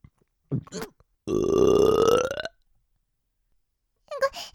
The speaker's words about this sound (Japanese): ごめんね、急にゲップが出ちゃって。